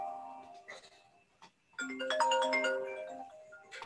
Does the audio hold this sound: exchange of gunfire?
no